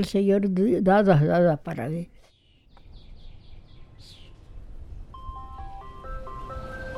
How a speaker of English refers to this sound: You know, I've been coming here for more than 20 years, and I've never bought an ice cream from that truck. But it sure is part of the rhythm of life here.